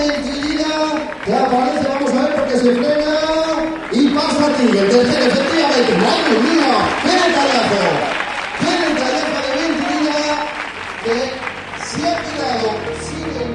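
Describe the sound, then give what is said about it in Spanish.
A crowd at the Santander triathlon applauds steadily for over ten seconds as Spanish athlete Diego Méntrida lets his British rival James Teague pass, giving up third place; a dense patter of clapping mixed with loud cheering and overlapping voices at a fairly even level. “una historia que quiero compartir contigo y que empieza con estos aplausos”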